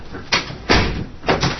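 A door is pushed shut with a solid thud and locked, followed by a few sharper clicks and clunks of the latch or lock. Fairly loud, with no talking.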